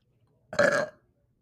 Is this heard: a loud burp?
yes